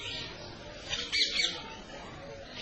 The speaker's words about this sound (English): Beautiful creepers crawling up the trees. The birds are cooing.